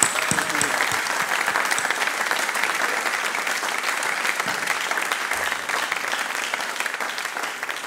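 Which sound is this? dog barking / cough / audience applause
audience applause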